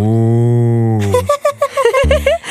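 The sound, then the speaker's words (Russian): A cow moos loudly, one long, steady low call lasting about a second, followed by a shorter, wavering call that rises and falls in pitch. “Радуются дети и даже коровы.”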